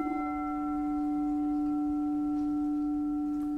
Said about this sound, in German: Oder eine Metallschüssel. So eine Klangschale. Rin. R-I-N.